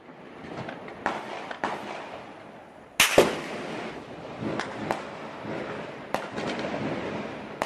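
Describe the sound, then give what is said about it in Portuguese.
Repeated gunshots crack out at irregular intervals, some in quick bursts and others single, echoing over a constant outdoor rumble in the early hours of the night in Criciúma, southern Santa Catarina, recorded on residents' mobile phones. “O áudio que você acabou de escutar capta os sons de tiros na madrugada de hoje na cidade de Criciúma, no sul de Santa Catarina.”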